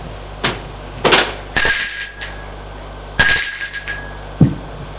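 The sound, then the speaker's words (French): A doorbell at a young woman's door rings twice, each bright metallic chime sounding clearly and fading out, with a couple of soft rustling thumps before it and a faint knock near the end. “Sonné à sa porte.”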